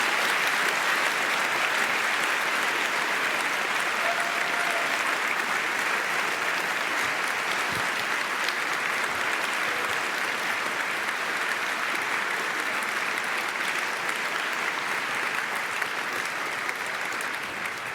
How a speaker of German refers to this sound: Ihr dürft jetzt noch einmal bitte für ganz oft in die Hände klatschen, für das, wenn euch der Vortrag gefallen hat. Dankeschön.